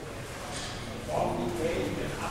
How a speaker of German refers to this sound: Im Foyer der Medizinischen Klinik 3 an der Universitätsklinik in Dresden. Morgens füllt sich der Wartebereich in der Eingangshalle.